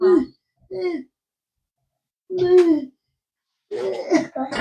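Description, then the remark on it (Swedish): A young boy's voice gives several short, throaty coughs in quick succession, separated by brief silences. “Förlåt min hosta.”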